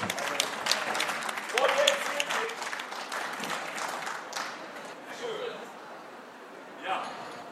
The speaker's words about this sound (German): Puff, super, klasse. Applaus!